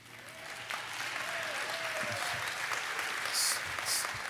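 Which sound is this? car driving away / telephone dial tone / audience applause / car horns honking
audience applause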